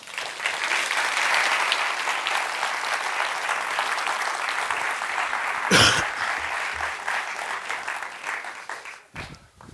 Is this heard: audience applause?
yes